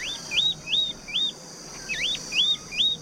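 A bird in trees sings a series of about seven quick, high, rising whistled notes, repeated at a steady rhythm with brief pauses, clear over a faint hiss, with no talking.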